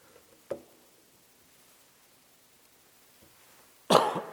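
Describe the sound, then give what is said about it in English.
A single loud cough bursts out near the end, preceded earlier by a faint throat sound, with near-silence in between and no talking. “She didn't cough.”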